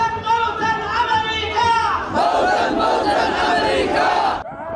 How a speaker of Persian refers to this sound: صدای مراسم رژه شبه نظامیان حوثی در استان عمران یمن پس از اعلام تشکیل این ائتلاف.